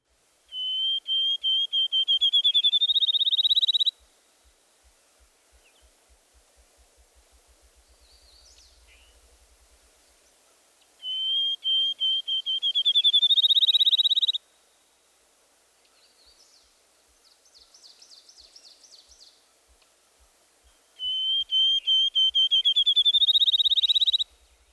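A field sparrow sings three times, each song a run of clear, high whistles that speed up into a quick trill, loud, with faint bird calls in the pauses between.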